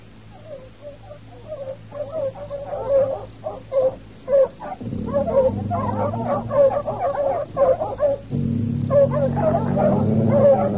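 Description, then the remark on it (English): Several dogs bark and yip in quick, uneven bursts, fairly loud, with a low steady rumble swelling underneath in the second half. “The dogs were still worried, but we didn't see nothing more.”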